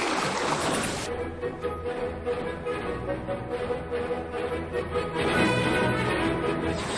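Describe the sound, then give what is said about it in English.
A single-person boat going in circles on a shallow pond, with water sloshing and splashing steadily around the hull and faint paddle strokes, continuous, with no voices. “I wonder if your spiritual life ever looks a bit like this, sitting in a single-person boat in a shallow pond, just going in circles.”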